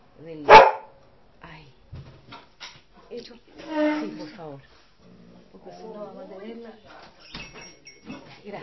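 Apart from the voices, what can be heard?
dog barking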